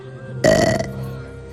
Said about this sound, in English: Oh, don't forget to eat the hair. That's where all the nutrients are. Mole burps.